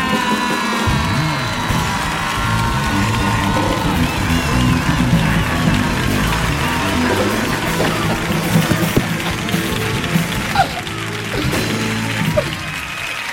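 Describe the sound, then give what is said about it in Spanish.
An audience at the Auditorio Cartuja gives a loud, sustained standing ovation welcoming a performer, dense applause mixed with cheering and whoops, holding steady for the whole stretch without pause. “Vamos a recibir con una atronadora, con una cariñosa y con una maravillosa ovación”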